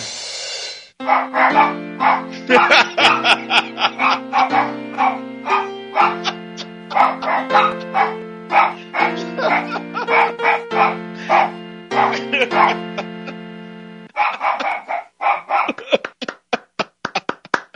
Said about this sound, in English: I can't believe, how do you do that? How do you take a dog's bark and make it into a tune?